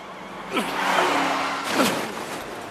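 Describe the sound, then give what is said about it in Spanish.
A car races by with a steady roaring rush, broken by two sharp, rising tire screeches as it swerves hard toward a crash, loud with no talking. “¡Detén el auto! ¡Vamos a chocar!”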